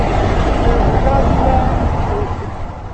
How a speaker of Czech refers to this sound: A my už sjíždíme do dolu. Jak se blížíme, uhelná rypadla se stávají větší a větší a taky hluk značně zesílil.